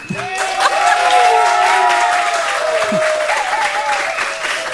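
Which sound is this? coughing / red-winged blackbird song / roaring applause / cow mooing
roaring applause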